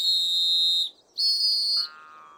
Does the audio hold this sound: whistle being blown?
yes